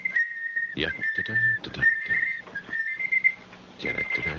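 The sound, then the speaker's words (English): A tape-playing device that has no alarm sounds a shrill, steady electronic tone that keeps cutting in and out like an alarm clock beeping, continuing even with the tape taken out, mixed with rough clattering and handling noises. “That sounds like an alarm clock.”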